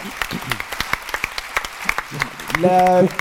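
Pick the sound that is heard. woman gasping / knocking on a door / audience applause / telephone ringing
audience applause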